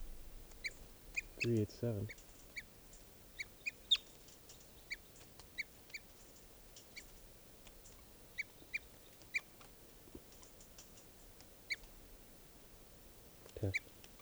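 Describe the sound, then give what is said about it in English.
Bird alarm calls given while a hawk is present: sharp, high chips repeated irregularly throughout, with two louder, harsher, lower calls near the start and the end, over a faint background hiss. “That hawk is still here, and these are the alarm calls of 387.”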